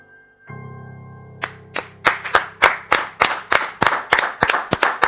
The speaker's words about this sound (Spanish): Aplauden en el control, en producción y adentro del estudio, maravilloso.